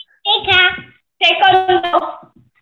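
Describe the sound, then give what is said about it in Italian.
A child's high-pitched voice speaks in two short bursts separated by a brief pause, fairly clear and moderately loud, with no other sounds around it. “Sento bambino.”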